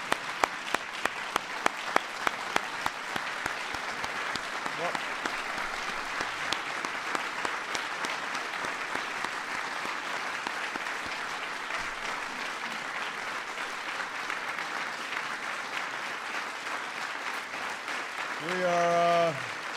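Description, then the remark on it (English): A crowd breaks into sustained applause for awardees, dense clapping for nearly twenty seconds, starting with a few distinct claps and swelling into steady, even clapping before a voice begins near the end. “Let's give a big round of applause to all our awardees.”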